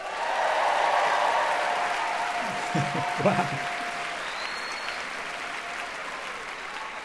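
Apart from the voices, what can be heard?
audience cheering and applause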